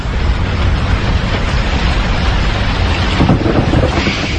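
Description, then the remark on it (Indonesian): Loud, sustained thunder rumbles, a deep continuous roar mixed with rain-like hiss, swelling slightly near the end. No one speaks. “Dan tiba-tiba, astaga, aku dikagetkan dengan suara petir yang sangat keras dan membuat penerangan di rumahku ini mendadak mati.”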